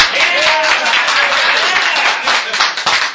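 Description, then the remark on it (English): A group of people at a meeting clapping after a motion carries, a steady, dense patter of applause that holds for about three seconds, with a few voices calling out underneath. “Can we clap now?”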